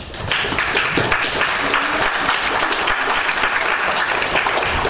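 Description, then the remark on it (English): A large audience breaks into sustained applause in support of the Broncos ahead of the Super Bowl, a dense, steady wash of many hands clapping that holds at full strength for several seconds without any talking over it. “But the thing about it is, if you're for the Broncos, just clap.”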